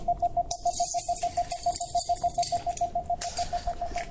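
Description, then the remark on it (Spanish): A fast, evenly spaced series of short mid-pitched audio guidance beeps from an object-finding app, guiding the user to centre the camera on a found object (keys) 2.2 metres away, repeats steadily throughout, with bursts of rustling and clicking handling noise over them and no talking. “Centra la cámara en el objeto siguiendo señales de audio. Ahí suenan las señales.”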